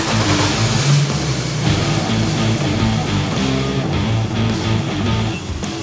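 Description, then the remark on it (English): A customized car's engine rumbles steadily, a continuous low drone with shifting tones as the car is driven out for its reveal, no voices on top. “Bring that car out!”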